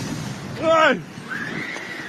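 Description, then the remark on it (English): A single shrill scream of people running for their lives from a sudden massive wave of water rises and falls sharply over a steady noisy background, followed by a fainter, thinner wail. “You can hear the people screaming, people running for their lives.”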